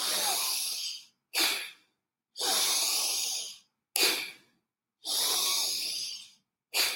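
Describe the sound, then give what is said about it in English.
Pranayama breathing: three cycles, each a long, airy, hissing breath followed by a short, forceful puff, with brief silences between. No one speaks. “Couple of more times, breathe in, breathe out.”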